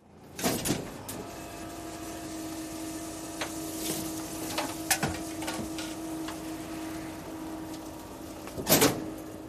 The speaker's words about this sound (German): Ich bin das große Müllauto. Die Mülltonnen werden in meinen dicken Bauch geleert.